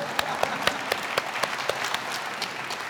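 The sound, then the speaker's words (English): An audience applauds the return of their pastor, with steady overlapping claps and a few sharper, regular hand claps standing out, sustained at a moderate level throughout. “I just want to clap personally. You don't have to, but I love to.”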